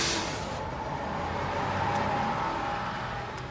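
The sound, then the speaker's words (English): A bus pulls in, its engine rumbling steadily with a broad roar and a faint whine, loud and continuous for a few seconds with no voices. “That's my bus.”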